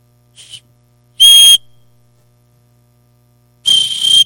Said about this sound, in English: I brought a whistle with me in here. Let me see if I can blow this thing.